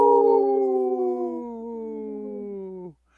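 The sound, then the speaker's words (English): A single long wolf howl, a steady tonal wail that holds for nearly three seconds while sliding slowly downward in pitch, then drops off abruptly into silence. “Howl! Howl!”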